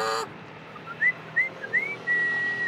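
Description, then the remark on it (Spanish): A person whistles to call a dog to come and eat: three quick rising chirps followed by one longer, steady high note, clear, with no talking. “Yo le digo perro y lo llamo con un chiflido para que venga a comer.”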